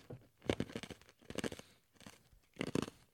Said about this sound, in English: I'm literally chewing the ice.